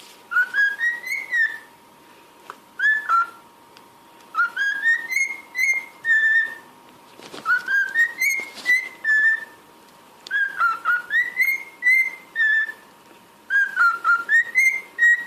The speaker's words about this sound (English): Not even that good. But I thought it was very good. That was a little cockatiel.